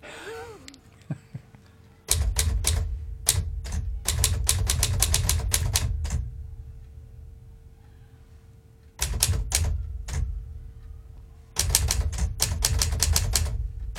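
Rapid mechanical typewriter keystrokes clack in three sharp bursts separated by short pauses, with a low rumbling hum underneath and no talking.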